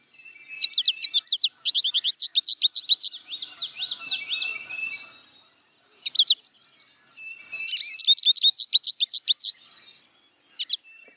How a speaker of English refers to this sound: The little creature that makes this call made its first spring appearance at my bird feeder this week. Those were the songs and calls of the American goldfinch.